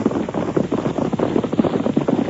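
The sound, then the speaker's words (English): Several horses, with a sheriff riding in front, gallop closer, their hoofbeats a dense, steady rumble of overlapping thuds that holds fairly loud throughout, with no voices. “Here they come. It's all right. That's the sheriff riding in front.”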